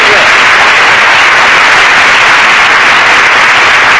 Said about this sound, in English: you could have come in a little sooner with the applause on that other joke. We'd have saved the wear and tear on the audience.